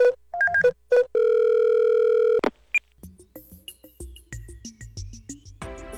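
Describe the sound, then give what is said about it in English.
A telephone video-call effect in the style of the space phone from the film 2001: A Space Odyssey: a string of quick electronic dialing beeps leads into a long, steady ringing tone, followed by scattered clicks and chirpy electronic blips as the call connects. No one speaks. “So let's give him a ring. You know what? I'd like to use my... that space phone from the film 2001 A Space Odyssey.”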